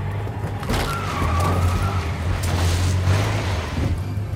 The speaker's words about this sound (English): The truck can't take much more, man.